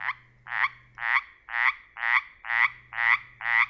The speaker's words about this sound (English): This week, that raspy call opens an episode about several species of small frogs that share a common group name but differ in sound and distribution.